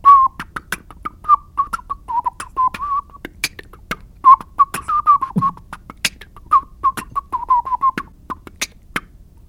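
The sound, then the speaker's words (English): A lively whistled melody runs continuously while sharp percussive mouth clicks and pops keep a steady beatbox rhythm underneath, all performed by one person with no talking. “And I've been trying to incorporate whistling into beatboxing recently, which sounds like.”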